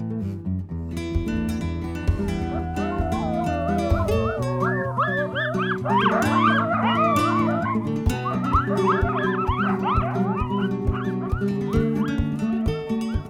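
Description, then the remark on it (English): A chorus of coyote yips and howls, high and wavering, sliding up and down in pitch and overlapping one another above a steady, sustained low musical tone. “Luckily, it doesn't seem like the coyote is in any danger of going away.”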